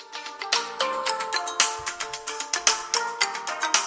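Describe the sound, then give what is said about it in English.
A bright, lilting music track from the video game Donkey Kong Country: Tropical Freeze, with plucked, chiming notes in a steady bouncy rhythm, each note ringing briefly before the next, with a soft low pulse underneath and no voices. “Oh, it's Donkey Kong Country Tropical Freeze.”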